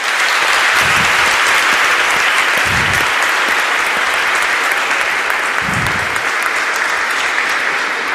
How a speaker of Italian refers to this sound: Prima di iniziare la celebrazione eucaristica, penso che possiamo accoglierci con un bel applauso perché non l'abbiamo fatto prima.